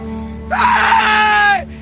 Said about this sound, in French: Par exemple, au début du film, quand le naufragé monte en haut de la montagne, il crie pour appeler à l'aide.